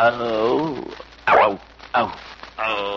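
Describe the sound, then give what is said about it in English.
A man's voice imitates a lion's growl: a drawn-out voiced rumble, then two short gruff bursts, then another growl starting at the end. Fairly loud, with no other sounds. “the lion at home. You growl once. Let's hear you do it again”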